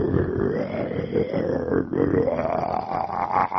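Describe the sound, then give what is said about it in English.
A person imitates a lion with a long, low, rumbling roar, growling continuously for a few seconds, rough and gravelly with small swells in loudness. “Not exactly a lion, but it's the best I could do today.”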